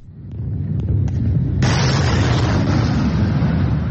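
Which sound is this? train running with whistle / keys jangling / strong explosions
strong explosions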